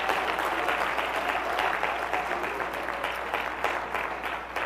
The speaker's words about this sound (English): Give the Lord a clap offering for the Word.